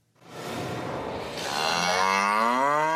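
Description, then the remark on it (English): A red heifer at Ancient Shiloh in Israel lets out a single long moo, starting as a rough, breathy low and swelling into a strong, tonal bellow, loud with no talking. “Here in Shiloh, first time after 2,000 years, we have real kosher red heifers, which is really exciting.”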